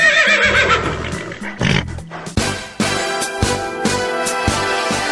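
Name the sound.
horse neighing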